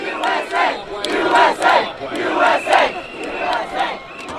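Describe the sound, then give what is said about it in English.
A large crowd of U.S. soccer fans, gathered to watch the U.S. men's team play Germany in the World Cup, chants in unison, loud rhythmic shouted phrases rising and falling in steady pulses about every half second to second, with voices blending into a roaring mass. “As fans gathered to watch the U.S. men's soccer team take on the Germans in the World Cup last week, the usual chants broke out like clockwork.”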